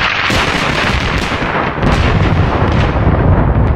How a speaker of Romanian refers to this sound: O furtună violentă se pregătea să vină. Fulgere mari brăzdau deja cerul jos și negru și tunetul bubuia dincolo de crestele întunecate.